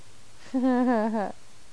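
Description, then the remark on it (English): A single drawn-out cat meow, clear, lasting under a second with a slightly wavering pitch, heard alone against a quiet background. “My, what a thirsty boy. Kitty.”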